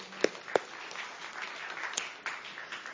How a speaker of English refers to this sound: You can go and sit down. You did a great job. Yep, you can clap.